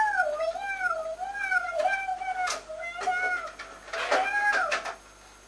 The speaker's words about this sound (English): Is that Nancy's cat? No. No. It's the cat's cat. It's whose cat? Whose cat is it?